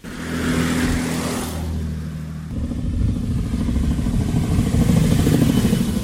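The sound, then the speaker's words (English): A heavy diesel truck rumbles loudly past, its low engine drone shifting pitch about halfway through as it keeps going, with clattering mechanical noise and no voices. “Sure, I'm glad most of the trucks are coming down full and going up empty as compared to the other way around, going up full.”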